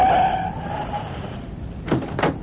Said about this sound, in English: Okay, cabbie, hit those brakes. This is it.